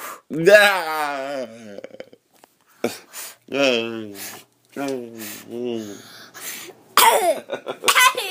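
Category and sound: human body sound, coughing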